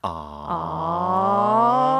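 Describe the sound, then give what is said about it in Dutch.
A crowd sound effect lets out a long, drawn-out "aww" in unison, a sustained vocal tone that starts softer and swells slightly louder as its pitch slowly rises over about two seconds. “Hier ga ik dan even zo'n heel publiek onder monteren wat zegt...”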